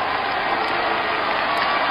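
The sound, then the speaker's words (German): A football stadium crowd at the Stadion an der Hafenstraße in Essen roars after an Essen goal in the 1970s, with no music played, a dense, steady wall of cheering that stays loud for the whole two seconds, with a muffled, band-limited tone like an old recording. “Ich meine, ich habe mal so einen Torjubel mitgebracht, wie das klang, wenn Essen getroffen hat in den 70er Jahren.”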